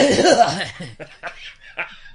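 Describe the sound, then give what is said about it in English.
Someone does an exaggerated imitation of an old man's cough: a loud, rasping, voiced hack followed by several shorter breathy bursts that trail off into what sounds like laughter. “Shit, I caught myself the other day having an old man cough.”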